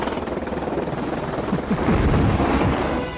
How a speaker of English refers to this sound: There's a chopper behind me, isn't there?